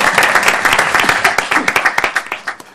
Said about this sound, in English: Very well done. And we don't allow clapping in the chamber, but for you, we'll allow clapping. Good job.